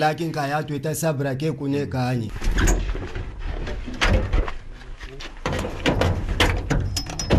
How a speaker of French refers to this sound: Il pousse une porte brinque-ballante faite de tôles brûlées.